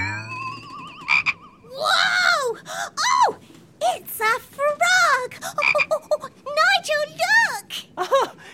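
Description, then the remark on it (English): A frog out at sea, which popped out of a barrel, croaks over and over in quick, uneven bursts, each croak loud and tonal with a rising-and-falling pitch, above a low steady rumble in the background. “We don't usually get frogs out at sea.”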